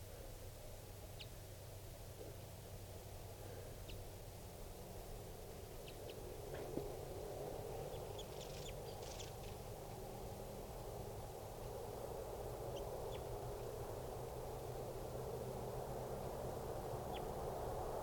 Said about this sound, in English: These are the decoys calling. No calls right now from the wild birds.